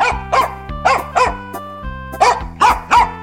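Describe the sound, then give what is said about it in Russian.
A dog barks sharply and loudly, about six barks in quick pairs with short pauses, over a low, steady musical hum. “Вот села она, положила мешок на землю, и только было принялась петь, как вдруг выскочила из мешка хозяйская собака.”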